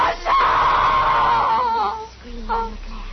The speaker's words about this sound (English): Screaming, ….